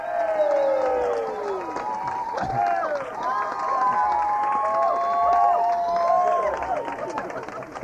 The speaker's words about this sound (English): How about a round of applause for our final three contestants?